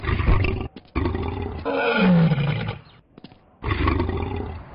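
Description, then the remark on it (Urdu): A lion roars loudly, a deep rumbling growl rising and falling in three heavy bursts separated by short pauses, with no talking. “شیر اس پر جھپٹا اور اس نے چیر پھاڑ کر گڑھے میں گرا دیا.”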